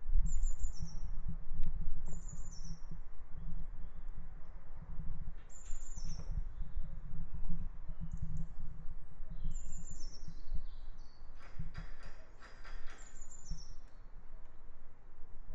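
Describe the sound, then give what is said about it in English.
Repeated high, bright bird calls chirp in short downward-sliding phrases every couple of seconds, with birds heard moving across and a busier cluster of tweets toward the end, over a steady low rumble of background noise; recorded around 12:45 while the sun is shining. “And it's nearly the end of the boo, so hope you enjoyed some more bird song, and I'm sure there'll be plenty more.”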